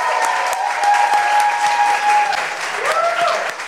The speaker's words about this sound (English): Y'all are going to be so sick of clapping, but please keep clapping.